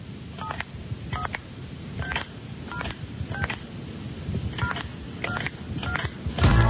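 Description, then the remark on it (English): A listener-made phone-number jingle from Devon: a rapid string of touch-tone dialing beeps, roughly a dozen crisp tones in an uneven rhythm like a phone number being keyed in, over a low rumbling background and ending in a louder burst. “And if you can't understand the numerical system, perhaps this jingle from”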